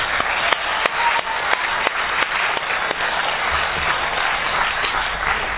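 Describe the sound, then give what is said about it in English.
An audience applauds a panel steadily, a dense wash of many hands clapping with a few sharper individual claps standing out, loud and sustained for the whole stretch with no talking. “Fellas, can you give them another round of applause?”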